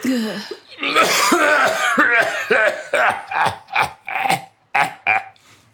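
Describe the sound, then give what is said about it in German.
A man with a glowing cigarette in the corner of his mouth has a harsh coughing fit with a raspy, wheezing edge, starting in a long rough burst and breaking into a rapid series of about eight hacking coughs. “im Mundwinkel eine glühende Zigarette, deren stechendes Aroma alsbald den Weg in mein Schlafzimmer fand, im Rachen einen keuchenden Husten von biblischen Proportionen.”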